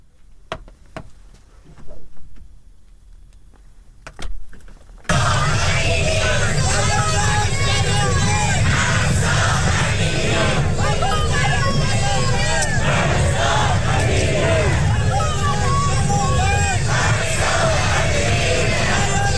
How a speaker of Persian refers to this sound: سیدنی، ملبورن و برزبین از شهرهای عمده استرالیا بودند که ایرانیان با حضور انبوه در آنها نام مهسا امینی را فریاد زدند.